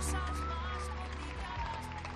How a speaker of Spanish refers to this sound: Pues aquí también llueve y los aplausos están muy amortiguados por el sonido de la lluvia.